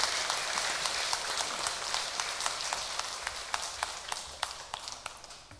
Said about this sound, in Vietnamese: Xin cho một tràng vỗ tay thật lớn để chào mừng.